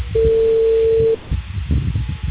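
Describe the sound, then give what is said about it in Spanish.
A single steady telephone call tone to a mobile phone sounds for about a second, loud and clear over a low line hiss, then cuts off into muffled background noise as the call goes unanswered. “Señora, ¿me puede contestar, por favor? El usuario no puede recibir.”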